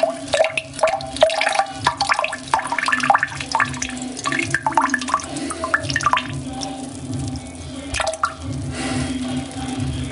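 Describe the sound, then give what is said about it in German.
A urine stream trickles and splashes into toilet water, breaking into irregular drips and spurts before tapering off into final drops, fairly loud with no voices. “Bis zum letzten Tropfen wird hier die Blasen ausgequetscht.”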